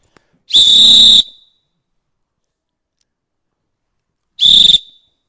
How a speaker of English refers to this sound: Let's blow the whistle again. What's it going to do? I brought another whistle here. Let me blow it a minute.